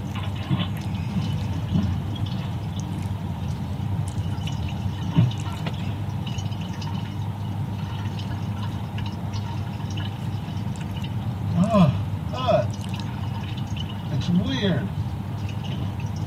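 Water runs in a steady trickle, with a few wet gurgling bursts late on as liquid drains through the nose during a sinus rinse, alongside faint breathy vocal sounds.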